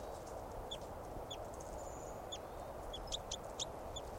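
bird calling

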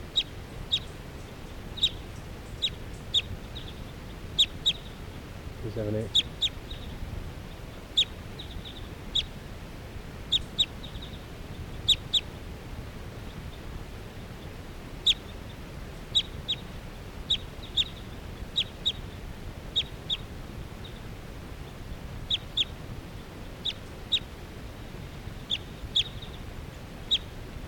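bird calling

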